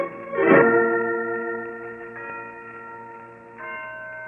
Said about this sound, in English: Listen to those bells, Holmes. Yes, Watson, the historic Blandford bells. They've been ringing from that bell tower for 3 centuries.